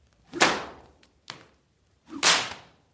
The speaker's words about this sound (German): Chris Carsten Roman hat als Schipolla ein wichtiges und durchaus symbolträchtiges Requisit dabei. Die Reitpeitsche, die er immer wieder knallen lässt.